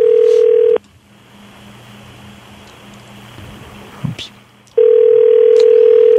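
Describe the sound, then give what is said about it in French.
Outgoing-call ringback tone as the radio show Ça rentre au poste on Énergie phones a pig producer: a loud, steady, mid-pitched electronic ring sounds briefly, falls silent for about four seconds with only faint background noise, then rings again. “Ce serait le fun qu'il réponde.”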